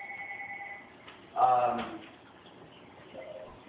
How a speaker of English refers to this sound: Even though we're in airplane mode, that is obviously the home phone ringing.